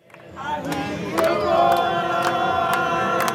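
A large crowd of fans gathered outside the Copacabana Palace at Copacabana Beach in Rio de Janeiro, Brazil, for a free concert, cheers and shouts together, a dense, sustained roar of many voices swelling after the first second and staying loud, with sharp bursts of louder cries throughout.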